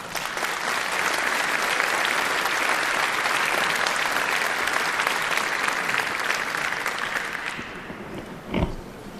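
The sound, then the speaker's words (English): Sustained audience applause welcoming a speaker before a talk on hardware implants, a dense wash of many hands clapping that holds steady for several seconds before tapering off, followed by a brief soft thump near the end. “Please give a warm round of applause”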